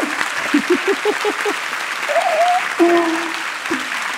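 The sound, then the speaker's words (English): A crowd breaks into wild, sustained applause for author Judy Bloom, a dense steady roar of clapping with scattered high whoops and cheers rising above it throughout. “I don't know if you can hear that wild applause, but it is very wild.”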